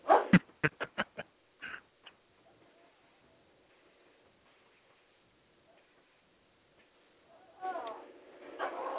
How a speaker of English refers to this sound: Oh, here's a damn dog barking.